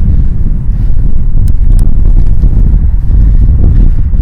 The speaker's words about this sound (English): It's quite windy in that direction.